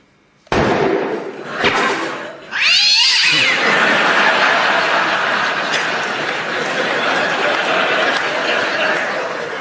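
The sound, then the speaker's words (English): A sharp bang rings out, then a theatre cat called Lucky lets out a loud, drawn-out yowling meow, followed by a steady wash of noisy sound with no talking. “I'm sorry, but that cat was really getting on my nerves.”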